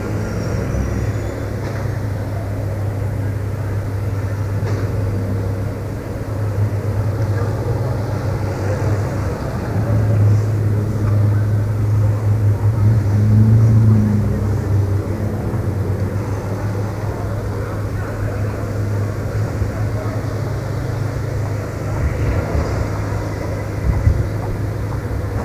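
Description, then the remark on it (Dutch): Steady low engine rumble of a grey-blue Alfa Romeo car followed by buses moving slowly along a street into the Leidse Dwarsstraat, a continuous drone that swells in the middle as a vehicle passes, with faint traffic noise around. “Oh, die auto is trouwens een Alfa Romeo.”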